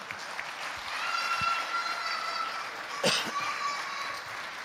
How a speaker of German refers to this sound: Und jetzt gibt es erst noch mal einen kleinen symbolischen Applaus und ihr dürft noch mal 100-mal jeder eben applaudieren.